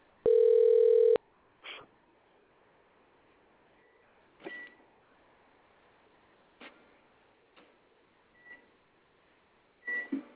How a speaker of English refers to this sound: Should I talk about the other things I got going on first, or you want to bring the caller? I'm going to dial it right now.